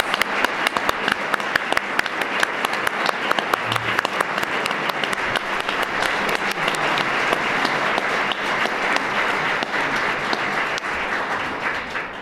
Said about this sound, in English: Thank you guys again, and God bless. Can we get a round of applause for your D12 candidates?